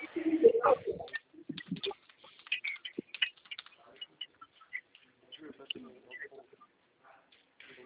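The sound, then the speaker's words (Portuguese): Irregular rapid clicks of typing on a keyboard as a customer's details are entered, fairly quiet, running in uneven bursts over several seconds, with a brief stretch of voice at the start. “que eu tô digitando aqui, porque eu, ele é novo, então eu tô ajudando ele aqui com a digitação, tá bom?”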